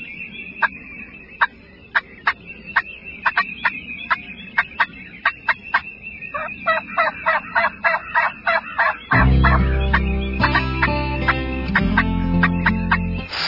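A wild turkey gobbles in rapid, repeated bursts, fairly loud. Partway through, a heavy low droning sound rises underneath and continues while the gobbling goes on.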